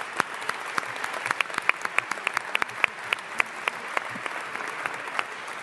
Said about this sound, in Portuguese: Por isso eu peço uma salva de palmas para todos nós.